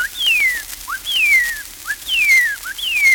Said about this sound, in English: The first bird voice that greets me in the spring of the year is the cardinal redbird, calling, "What cheer, what cheer, what cheer?"